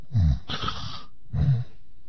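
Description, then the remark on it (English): Two rough, rattling snores from a sleeping man, each a low throaty rumble followed by a breathy exhale, sounding thin and muffled as if coming over a telephone line. “There's a guy snoring on the other end of the phone line.”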